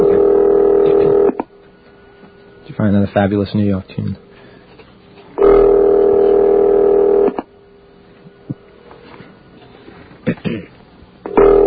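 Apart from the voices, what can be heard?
telephone number being dialed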